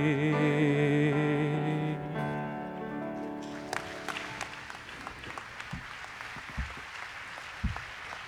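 A man sings a hymn that ends on sustained, held notes, then the audience stands and breaks into steady, dense applause that continues to the end, with a few sharper claps and thumps.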